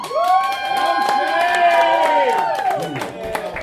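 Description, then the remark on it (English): A crowd breaks into loud, sustained cheering and applause, voting by applause that the host should not shave, with many overlapping voices whooping over a dense patter of clapping that holds steady for several seconds before thinning slightly. “By applause, should I not shave?”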